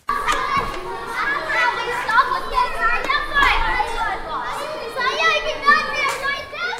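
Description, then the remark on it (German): A crowd of children shouting and chattering at once, as in a busy classroom: a steady, loud wash of high-pitched overlapping voices with sharper yells popping out throughout. “Ich glaube, das klingt ein bisschen wie in der Klasse.”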